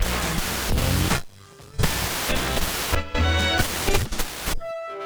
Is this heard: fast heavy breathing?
no